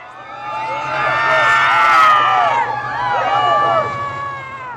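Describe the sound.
A large crowd cheers and shouts wildly as Donald Trump drives by, many voices overlapping in loud, high-pitched whoops and yells that swell and stay intense for several seconds.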